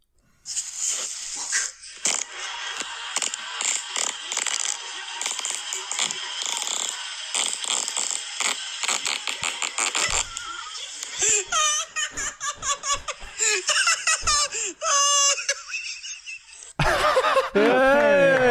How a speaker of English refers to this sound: You could hear him start laughing. See what I mean? You can't even enjoy the farts. If you listen, you start laughing. You go, brr, brr, brr, brr. It's not a good way to finish. Good fart, though. Great length.